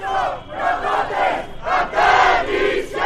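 A large crowd of local residents protests in the port city of Mytilene on Lesbos, Greece, against the visit of EU Home Affairs Commissioner Ylva Johansson. They chant "Greek islands will not be turned to prisons" in loud, rhythmic bursts, many voices rising and falling together, with no single speaker standing out.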